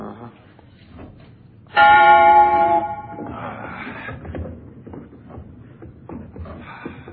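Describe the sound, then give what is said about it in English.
A single loud strike of an old tower bell, not rung in 18 years, rings out, its bright metallic tone holding for about a second before fading into quiet shuffling and movement. “Bell's been rung in 18 years.”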